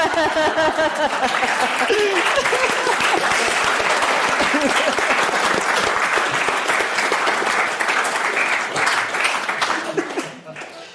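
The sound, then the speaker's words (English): A large audience applauds the speakers at an evening event, with steady, dense, sustained clapping at full volume for about ten seconds and a few cheers and murmurs mixed in, before the applause starts tapering off at the end. “Can we give another big round of applause to all of our speakers tonight?”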